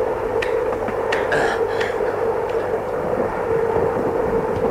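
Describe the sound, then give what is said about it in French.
A speeding train roars steadily along the rails, a dense rumbling wash with a sustained tonal hum and sharp metallic clicks and squeals flickering above it. “Il est essoufflé par le vent, la vitesse, le bruit, les efforts.”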